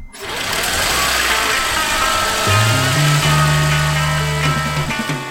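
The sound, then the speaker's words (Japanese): A Honda Insight car engine starts up and settles into a steady idle, then its pitch steps up as it revs briefly partway through, running continuously to the end with no talking. “今日のラッキーエンジンオンはホンダインサイトでした。”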